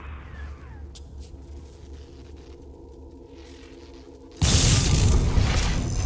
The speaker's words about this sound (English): I just zapped the door open.